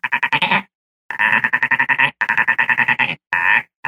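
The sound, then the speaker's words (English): A leopard frog's grunting call: several loud, raspy bursts of rapid pulses, each lasting about half a second to a second, separated by short pauses, with no talking. “So let's go with a leopard frog. Leopard frog kind of grunts like.”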